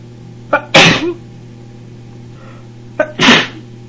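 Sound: sneezing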